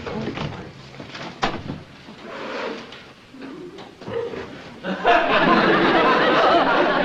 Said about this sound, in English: Did you hear something? Uh-uh. Thought I heard a knock.